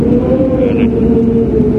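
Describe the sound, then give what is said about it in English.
Strong wind howls in a continuous loud roar, with a steady low moaning tone running underneath and a brief hiss partway through. No one speaks. “See, do you hear the wind?”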